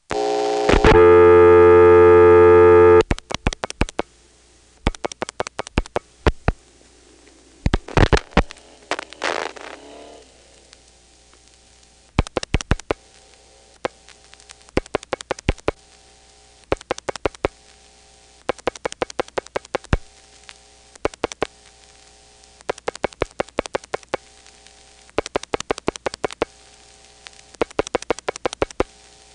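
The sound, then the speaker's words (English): A telephone dial tone sounds briefly, then gives way to repeated bursts of sharp, rapid clicks in groups, like a rotary phone dialing, as an old Long Island phone number is called, over a faint steady hum. “So now I'll call my old Long Island phone number.”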